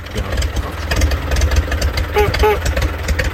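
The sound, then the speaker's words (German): A Horch car engine idles with a steady, deep low rumble throughout, broken only by two brief higher tonal chirps near the end. “Eine Münze auf den laufenden Motor gestellt, darf nicht umfallen.”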